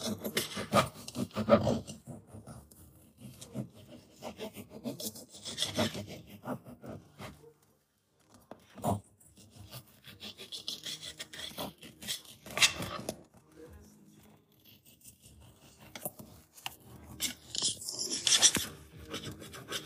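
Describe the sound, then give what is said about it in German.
Food being cut with knives by two people at the same time, each cutting one half: irregular rasping, scraping strokes against a wooden board, coming in clustered bursts with short pauses between them, at a moderate level and without talking. “Jeder eine Hälfte bekommt und dann schneidet die jeder. Ich gebe dir direkt noch ein Messer, dann können wir es gleichzeitig machen.”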